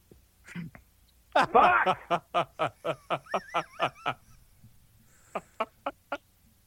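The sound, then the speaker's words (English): A short burp opens, then a loud croaky burst leads into a steady train of about a dozen sharp, evenly spaced clucking pulses. After a brief pause, a few more follow. “That started with a burp.”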